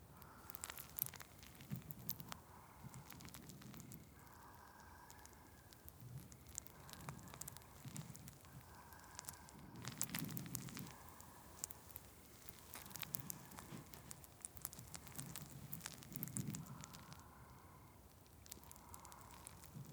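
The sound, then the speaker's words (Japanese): Steady crackling of carbonated fizz at the ears, a dense stream of tiny pops, with soft rhythmic squishing swells underneath. No one speaks. “炭酸のパチパチって音と感触がお耳を刺激して、だんだんと涼しくなってきますね。”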